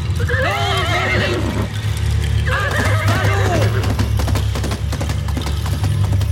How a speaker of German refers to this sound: Auf Glorfindels Ruf hin sprengte das weiße Pferd mit Frodo auf seinem Rücken wie der Wind davon.